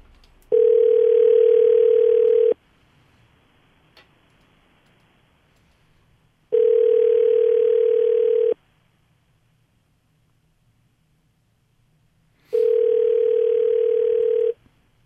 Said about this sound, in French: Mon téléphone sonne.